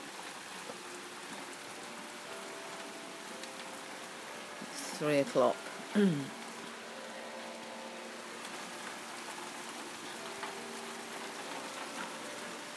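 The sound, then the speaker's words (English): Hail patters steadily outside an open doorway, a dense, continuous clatter of small impacts throughout, with a person briefly speaking partway through. “It's still hail.”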